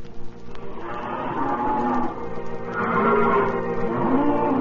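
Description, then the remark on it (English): Cattle low in long, overlapping moos, two sustained calls swelling one after another, loud, with a herd-like murmur underneath and no talking. “By 1871, 700,000 head of cattle were driven to Abilene, and the cattle kingdom spread.”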